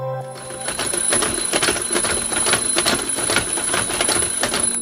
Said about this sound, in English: First, I apologise for starting this podcast with the horribly familiar sound of an alarm clock and all the associations that entails. Second, listen closer. There's another noise in the background. Can you guess?